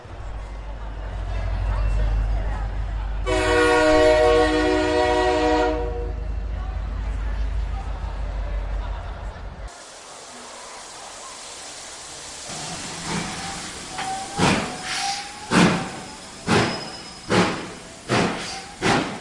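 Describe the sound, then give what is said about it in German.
The Hogwarts Express pulls away from Platform 9¾: a deep rumble and a sustained whistle blast, then hissing steam and a series of loud, rhythmic chuffs that grow steadily as the steam engine gets moving. “Der Hogwarts Express fährt nun vom Gleis 9 4 Drittel ab.”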